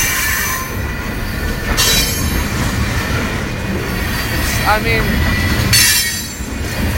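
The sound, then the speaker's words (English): A train rolls past, slowing down, with a heavy, steady rumble of rail cars, broken by a brief metallic wheel squeal and bursts of hiss, while a man speaks briefly over the noise. “Times like this when I really wonder, like, could a guy crawl underneath a train?”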